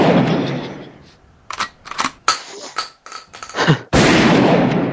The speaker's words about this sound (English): I'm just shooting these ducks. Goddamn ducks get in my yard.